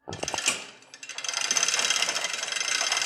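Metallic clinking and rattling of a chain hoist being pulled in the warehouse of Hammer & Wikan Hardware Store in downtown Petersburg, Alaska, to offload freight from a container van, starting with a few sharp clanks, then settling into a steady, rapid ratcheting rattle that continues throughout.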